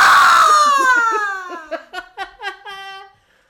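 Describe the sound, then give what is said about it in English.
A loud, high-pitched scream of terror from a single voice slides downward in pitch, then breaks into a series of short, choppy gasping pulses before fading out. “Now take the whole thing and move it up an octave and then scream in terror at the end.”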